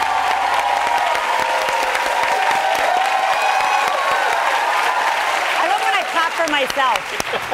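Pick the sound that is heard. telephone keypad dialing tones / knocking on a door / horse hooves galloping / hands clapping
hands clapping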